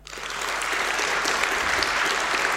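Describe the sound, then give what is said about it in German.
An audience applauds steadily with dense, continuous clapping, voting for the option 'fire brigade' over 'fire mage', and a few whistles for the fire brigade cut through near the start and middle. The crowd is fairly loud, with no talking. “Okay, es gab ein paar Pfiffe für die Feuerwehr.”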